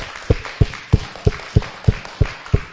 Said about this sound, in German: Und ich bin auch dankbar für alle Mitarbeit hier im Haus. Alles, was an Kinderkirche gelaufen ist. Auch da mal allen Kindermitarbeitern. Dicken, fetten Applaus.